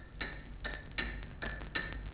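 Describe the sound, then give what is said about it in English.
A clock ticks steadily on its own over the radio after the capitulation during the occupation, sharp regular clicks arriving roughly twice a second over a faint hiss, with a muffled, narrow, old-radio quality. “that after the capitulation, if you turn on the radio, you couldn't hear anything. Just ticking, a clock ticking.”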